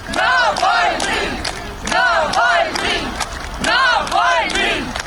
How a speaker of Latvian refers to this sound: Pēcpusdienā Zārks ar Navaļniju uz baznīcu tika atvests ar mikroautobusu, un cilvēki to sagaidīja ar aplausiem, skandējot Navaļnijas. Bet ap vieniem dienā Zārks tika ienests baznīcā, un tas notika cilvēku aplausu un saukļu pavadībā.